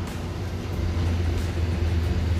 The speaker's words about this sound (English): I mean, there's places like this. The loud trucks when you're trying to record.